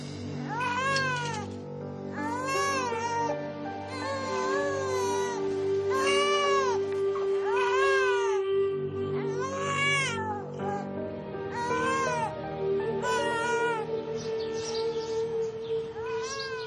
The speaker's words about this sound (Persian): مثل اینکه بچه تون داره تو خونه گریه میکنه. میرم الان. برو بابا جان، برو بچه تون رو گیر.